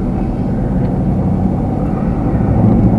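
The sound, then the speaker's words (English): A truck rolls along a rough dirt road, its engine and tires making a loud, steady low rumble that fills the whole stretch with no voices. “It's just the road, man. The road was just rough there for bad.”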